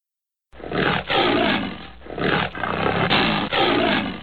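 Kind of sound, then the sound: animal, tiger roaring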